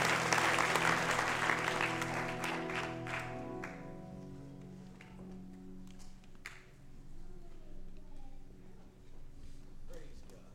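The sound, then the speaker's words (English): A seated church audience claps their hands unto the Lord during a service, loudly and densely for a few seconds before it thins out and fades, while sustained keyboard chords ring underneath and a few scattered claps and voices continue. “Would you clap your hands as you're seated unto the Lord?”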